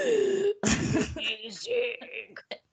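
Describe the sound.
A close, loud burst of harsh coughing and throat clearing follows a brief voiced, laugh-like sound, trailing off into a few shorter raspy clears and breaths.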